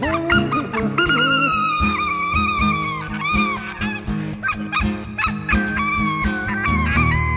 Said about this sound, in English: He's playing the fake harmonica. Is that a duck call? Yes.